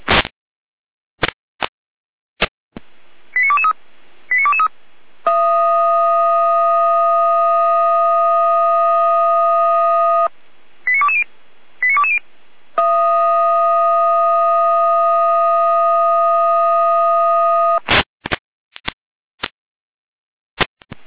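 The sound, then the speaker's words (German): A fire brigade alarm from Leitstelle Saalfeld dispatch over radio, alerting crews to water in a cellar and garage in Ebersdorf: sharp clicks, short tone pips, then two long, steady, buzzy electronic tones separated by another burst of pips, ending in more clicks. No one speaks. “Leitstelle Saalfeld mit Alarmierung.”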